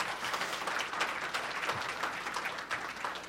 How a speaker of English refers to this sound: So maybe we give God a little applause for his creation.